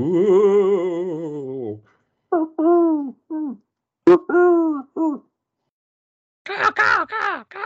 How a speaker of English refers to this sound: It's actually a noise that a pigeon makes.